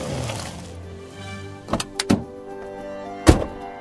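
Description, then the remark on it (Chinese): A car comes up and stops in front of a man: its low engine rumble settles into a steady idle, followed by three dull thunks like car doors shutting, the last one loudest. No one speaks. “从托洛宫方向开来一辆汽车， 在他面前停下来。”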